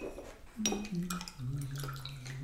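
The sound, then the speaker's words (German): A paintbrush is dipped and swished in a glass of water, with a few light clinks against the glass and a soft ringing tone. Fairly quiet, with no talking. “Jetzt tunken wir mal den Pinsel in das Wasser.”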